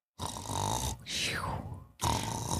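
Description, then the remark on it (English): Loud snoring in a few rough, rattling breaths, with a harsh rasp on each inhale and a gravelly, throaty texture, heard alone without any talking. “That's me snoring.”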